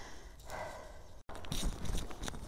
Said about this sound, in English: I think you're just going to get heavy breathing.